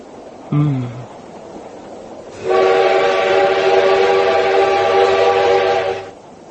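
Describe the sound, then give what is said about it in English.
A train rumbles along steadily, and after a brief low tone near the start, a loud, sustained whistle with a bright harmonic chord blares for about four seconds before cutting off as the train enters a tunnel. “After what seemed an eternity of silence between us, the train entered a tunnel.”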